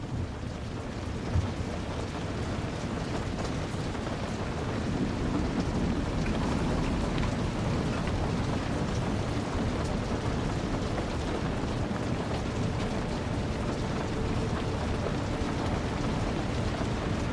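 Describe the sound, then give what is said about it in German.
Steady rain falls outside in a dense, even wash, with a low rumble of a distant storm beneath it. No voices, just continuous, moderately loud downpour throughout. “Deine Atmung wird tiefer und gleichmäßiger, im Einklang mit dem stetigen Rhythmus des Regens draußen.”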